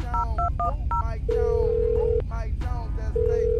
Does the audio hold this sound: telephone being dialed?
yes